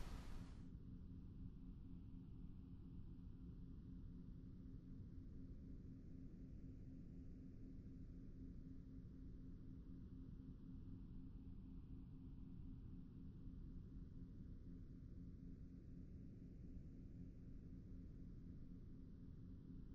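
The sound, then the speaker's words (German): A steady, soft hiss of background noise runs unbroken throughout, with a low rumbling base and a gently wavering, swooshing quality like wind or surf. No one speaks. “Lege dich bequem hin und stelle dabei die Lautstärke deiner Kopfhörer so ein, dass du das Rauschen im Hintergrund dezent und gerade noch gut für dich hören kannst.”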